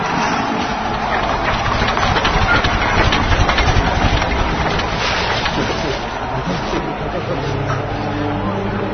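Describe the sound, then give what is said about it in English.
A truck engine rumbles loudly and steadily as it arrives, a constant low drone with a slight swell, while indistinct voices murmur underneath. “I got a truck too, right? Yeah. Here it comes.”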